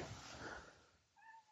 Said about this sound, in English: Meow. Hey, baby kitty. Well, if you come over here, I will hold you. Meow. I go to reach for her. She darts off. Because cat.